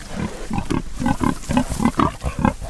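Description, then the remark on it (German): Pigs on a small farm raised for pork grunting in a quick, steady series of short, throaty snorts, about eight or nine in under three seconds, with no talking. “Das Produkt ist hochwertiges Schweinefleisch, das es bis in die Gourmetküche geschafft hat.”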